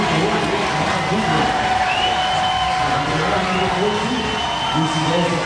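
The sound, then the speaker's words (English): A packed Grass Lake high school student section roars and cheers nonstop in an echoing gym during a basketball game, a dense, loud wall of shouting voices that holds steady for several seconds. “Grass Lake's student section making a ton of noise here.”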